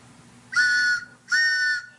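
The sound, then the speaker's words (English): A train whistle sounds two loud, sustained blasts of about half a second each, separated by a short gap, with a bright, chord-like tone over a low rumbling background. “Oh, it's the WBAI pitching train to make you more uncomfortable.”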